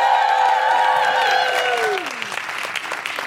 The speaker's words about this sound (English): Just give her a big round of applause.